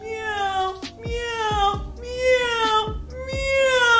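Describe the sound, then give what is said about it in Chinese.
During a singing lesson, a person imitates a cat, voicing about four sustained, tonal meows in a row, each starting sharply and sliding in pitch. The later ones are a little higher and louder, showing the mistake of raising the volume while raising the pitch. “有同学就会这样，喵喵喵 喵 ，no， 而是要在你提高调的过程中保持相同的音量”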